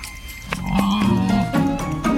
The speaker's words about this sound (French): Une chèvre, un petit mouton aussi, des jarres, des oies, un dindon.